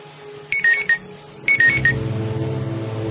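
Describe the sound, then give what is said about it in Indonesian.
A phone's text message notification chime plays twice, each a quick three-note electronic tone, with a low background hum continuing underneath. “Aku mendapatkan SMS dari Andre.”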